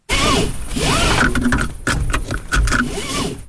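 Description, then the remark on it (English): A seatbelt strap slides out and back in a few long, whooshing pulls, with a cluster of sharp mechanical clicks from the buckle and latch in between. No one speaks. “You can hear that. You can hear the belt slide.”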